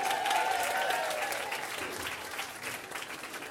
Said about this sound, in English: Round of applause for Neve.